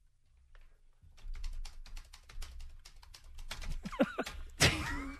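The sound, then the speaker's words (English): Rapid, steady clatter of someone typing on a computer keyboard during a live television broadcast, with dense quick keystrokes, followed by a couple of louder thumps near the end. “What are you typing, Dan?”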